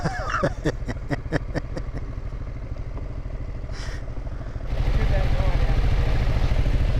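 A motorcycle engine idles with a steady, throbbing low rumble as the rider gets off it, punctuated early by a quick series of sharp clicks and clatter, then grows noticeably louder for the final couple of seconds.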